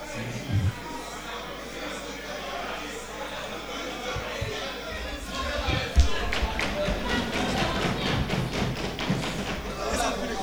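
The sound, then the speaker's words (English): Members of parliament from the SLPP clap for the entrance of the clerk, starting sparse and building into dense, steady applause in the second half, with crowd chatter and murmuring voices underneath. “The SLPP is clapping for the entrance of the clerk.”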